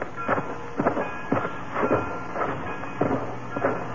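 A freight train, held for customs examination in a little town on the Austria-Hungarian border, rolls along the rails with a steady, rhythmic clatter of wheels over track joints, repeating about twice a second under a constant low rumble and hiss.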